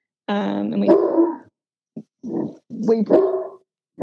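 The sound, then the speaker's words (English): A male dog barks and yelps in a run of loud bursts, apparently at rabbits in New Zealand: a long drawn-out howling bark, then several short sharp barks with brief pauses between them. “I'm just going to wait for him to stop barking again.”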